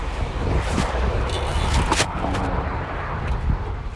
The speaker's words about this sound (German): Bin jetzt eine Stunde gefahren. Der Himmel ist komplett grau. Der Wind bläst mir wirklich die ganze Zeit entgegen, hat man ja vielleicht gerade gehört.